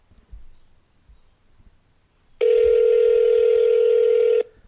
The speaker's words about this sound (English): Very long ringtones there. It's calling. Why is it so weird? It sounds like it's got a cold or something.